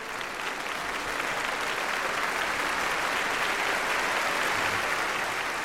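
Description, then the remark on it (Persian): Steady, sustained applause from a large audience in a hall, a dense wash of clapping that stays loud and even for several seconds with no voices standing out. “سالن از صدای تشویق می لرزید و منم می لرزیدم و اون روز رو هیچ وقت فراموش نمی کنم.”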